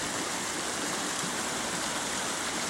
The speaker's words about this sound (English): This is a sound we're used to hearing year-round. But these days, this river only flows for a few months a year.